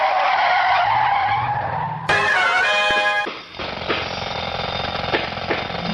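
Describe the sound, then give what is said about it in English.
Loud tires skid and squeal in a long screech, then an engine roars as the Signature Sign mobile speeds away, with the squealing tone carrying on over the revving motor. No one speaks. “Quick, to the signature sign mobile.”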